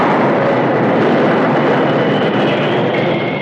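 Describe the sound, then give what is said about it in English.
A Union Pacific steam train bound for Pine City brakes hard in the early morning at the summit of Holly Hill, the engineer jamming on the brakes for a great pine fallen across the tracks less than 100 yards ahead: a loud, steady roar of rumbling and hissing with a faint high squeal. No voices. “The engineer jammed on the brakes.”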